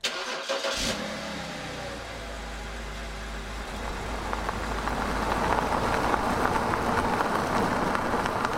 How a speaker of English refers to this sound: We climbed into the truck and took off down the road.